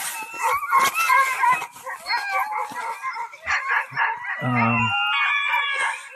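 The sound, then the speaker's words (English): A team of lively sled dogs yelps, barks and howls together in a loud, overlapping chorus that carries on without a break, with high excited cries piling over one another. “These dogs is nice, you know.”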